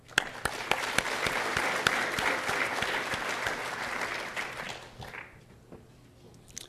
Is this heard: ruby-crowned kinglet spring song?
no